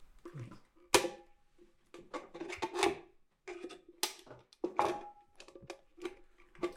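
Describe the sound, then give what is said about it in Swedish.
Tin snips chewing through a tin can: irregular bursts of sharp metallic snaps and crunching scrapes, some with a faint ringing tone, with no voices. “Jag är inte så van med att klippa i plåtburkar, måste jag erkänna.”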